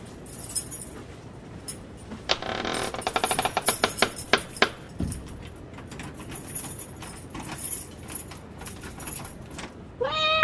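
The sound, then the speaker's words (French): A cat gives a single short, clear meow right at the end, after a stretch of quiet background noise and a burst of rattling, jangling clicks like keys. “Minou. T'as faim ?”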